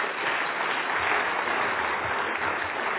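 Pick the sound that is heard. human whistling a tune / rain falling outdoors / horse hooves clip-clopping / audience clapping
audience clapping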